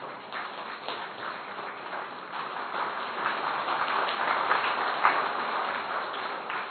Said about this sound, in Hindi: ऐसे ही कहेंगे ना, तो बहुत अपने लिए ताली बजाओ।